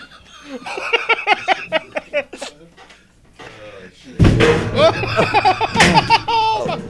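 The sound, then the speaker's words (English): Laughing voices, then a sudden loud thud and clatter as someone falls off a chair, followed by bursts of raucous laughter. “You just fell off your chair.”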